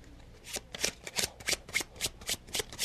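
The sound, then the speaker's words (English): A deck of playing cards being shuffled, a quick series of crisp riffling bursts repeating in a steady rhythm, with no one speaking. “Shuffle the cards.”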